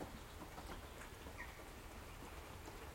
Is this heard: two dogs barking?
no